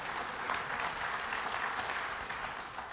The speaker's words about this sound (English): This is my lovely wife, and she is very much, yeah, you can clap for that. Thank you.